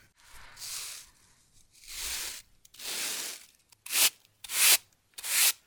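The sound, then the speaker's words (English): Ground corn, freshly ground and soft enough for a cake, is swept into a basket in six dry, hissing brush strokes: three slow, softer swishes, then three shorter, brighter ones in quick succession. No voices are heard. “Now I have finished grinding the corn and it is soft enough for the cake. So now I'm sweeping it into my basket.”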